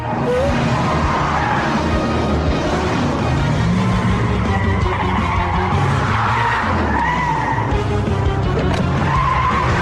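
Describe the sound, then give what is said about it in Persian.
A racing car skids loudly with screeching tire squeal over a roaring engine, the sliding noise continuous for the whole stretch, with no voices. “نمیتونیم ابر قهرمان و ابر شرور رو همزمان با این ماشین جا بذاریم.”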